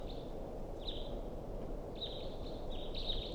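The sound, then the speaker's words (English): A wild bird calls with a series of thin, high whistled notes, some drawn out and some clipped, repeating through a steady wash of low background noise. Nobody speaks. “So recording, this is a wild bird.”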